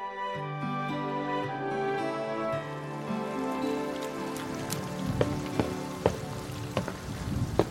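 rain falling

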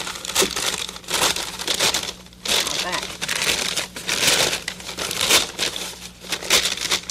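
paper bag crinkling

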